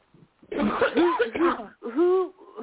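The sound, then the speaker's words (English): A person with an allergy-related hack coughs in a quick series of harsh, hacking bursts, a brief faint one followed by several louder, rougher coughs, with no talking. “Who's coughing?”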